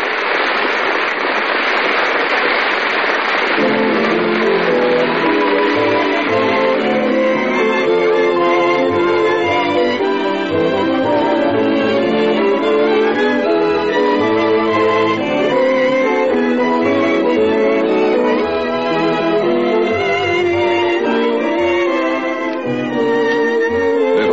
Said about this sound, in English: Did the first nighters like it? Listen to the applause.